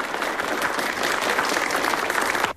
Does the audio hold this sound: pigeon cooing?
no